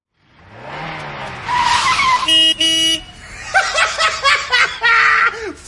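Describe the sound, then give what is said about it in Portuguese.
An old, smoky car's engine revs and whines up in pitch, then comes a burst of steady horn-like tones and a string of squealing, sputtering noises, loud throughout. “Olha a fumaceira que tá esse carro.”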